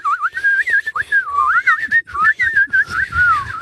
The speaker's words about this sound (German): Kannst du auch beim Einatmen pfeifen? Ja, natürlich. Muss man ja.